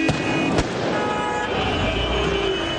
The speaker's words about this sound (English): The sound of Egyptian security forces firing tear gas and water cannons today to break up anti-government demonstrations by Islamists, defying a new law restricting protests.